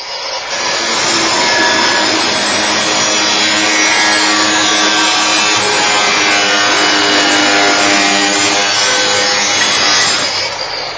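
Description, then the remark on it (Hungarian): Steady, loud rasping of a hand saw cutting through wood for several seconds at an entrance in the London sewer network, the harsh scraping continuous, with no voices. “Add ide a fűrészt.”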